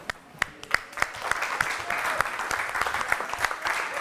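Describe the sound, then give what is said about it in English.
Audience applause at the end of a seminar class, a dense patter of many hands clapping steadily for a few seconds, with a handful of sharper claps standing out at the start. “I didn't think you could applaud because your noses were bleeding so bad.”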